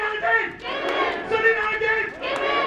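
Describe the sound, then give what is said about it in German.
Several hundred employees at a central union rally in the late morning, at the main plant of car-parts supplier Mahle in the Stuttgart region, shout and cheer together in sustained, surging waves, loud and continuous throughout, with many voices blending into a roaring chant. “Mehrere hundert Beschäftigte haben sich hier am späten Vormittag versammelt.”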